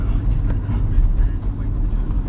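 Steady low rumble inside a works van, a constant droning hum of engine and road noise filling the cabin with no break, with muffled voice-like murmurs blending into the background.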